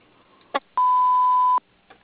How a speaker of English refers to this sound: Unit Ridge Accent Concrete. Please leave your name, phone number, and a message after the tone, or press start to send the fax.